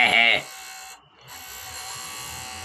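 An intercom buzzes once in a short, loud, harsh electric burst, then cuts off, leaving a steady low electrical hum with faint background noise.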